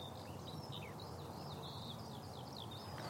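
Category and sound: bird, bird call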